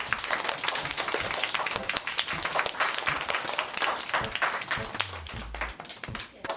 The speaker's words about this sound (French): Tout le monde se serre dans les bras et s'applaudit.